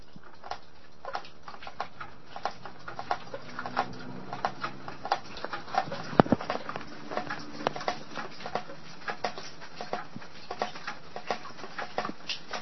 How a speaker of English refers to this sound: When I say it's really raining, I mean it's really raining. Can you hear that? Oh, wait. Let me enhance this a hair. This is how hard it's raining.